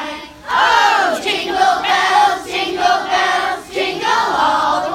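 A large crowd sings together in a loud, sustained chorus of many overlapping voices, the melody rising and falling steadily with brief dips between phrases of Jingle Bells.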